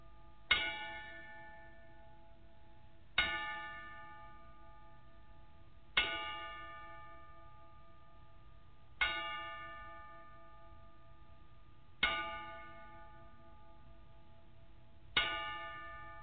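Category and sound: signal or alarm, ten-bell salute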